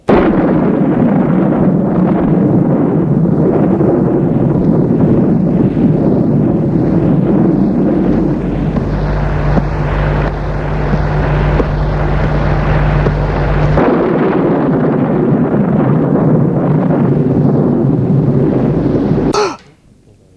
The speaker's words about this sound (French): L'électricité s'éteint, l'orage gronde.